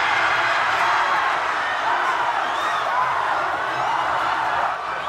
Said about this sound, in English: hundreds of Sewardites watched one of their own get closer and closer and closer to becoming the world's best. And with each passing second, the crowd got closer and closer to losing their minds.